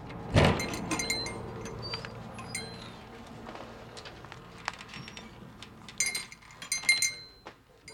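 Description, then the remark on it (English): Ambience inside Epstein's, the Harry J. Epstein Company, a neighborhood hardware store in Kansas City in the same brick-and-mortar building for over 80 years: scattered metallic clinks and clatters, opening with a sharp knock, then light tapping and jingling, growing busier near the end with bright chiming clinks; no one speaks. “takes us off that sidewalk and inside Epstein's.”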